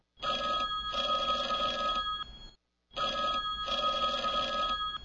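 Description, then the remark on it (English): A telephone at the Mac and Test Detective Agency rings in two long bursts separated by a short pause, loud, with a steady trilling bell tone and no voices. “Mac grabbed the phone quickly.”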